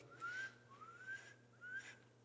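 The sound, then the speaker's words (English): A voice imitates a small bird by sucking air through pursed lips, making three thin, rising chirpy whistles in a quick, even rhythm, moderately loud against a steady low hum. “She used to do this little thing where she would purse her lips like this and she would suck in air.”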